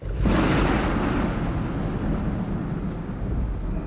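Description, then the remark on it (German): A sudden loud crash of thunder breaks in and rolls on as a deep, sustained rumble, with heavy icy rain lashing the deck of a sailing ship and wind roaring steadily in a storm at sea, lightning overhead and the ship thrown against towering waves. “Grellgelbe Blitze durchschneiden den pechschwarzen Himmel. Eiskalter Regen peitscht übers Deck.”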